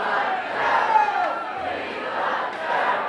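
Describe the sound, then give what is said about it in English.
A crowd of about 700 people cheers and yells at a campaign event with Vice President Joe Biden at Bucks County Community College's Bristol campus, a steady, dense roar that swells slightly and holds for the full few seconds, loud, with no single voice standing out. “Vice President Joe Biden led the charge, speaking today to a crowd of about 700 people at Bucks County Community College.”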